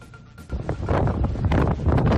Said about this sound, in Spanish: Quería empezar yo con esto que escuchas, con las rachas de más de 80 kilómetros por hora que han azotado al litoral levantino este fin de semana.